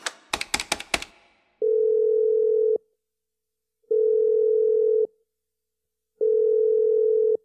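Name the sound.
telephone line tone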